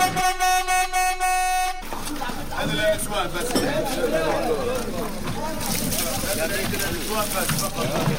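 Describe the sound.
A water tanker truck bringing fresh drinking water to a neighbourhood in Gaza blares its horn in a loud, buzzy blast broken into quick pulses, then it stops and a busy street scene follows, with people crowding around the tanker to fill their jugs, overlapping voices and chatter.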